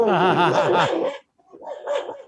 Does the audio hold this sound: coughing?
no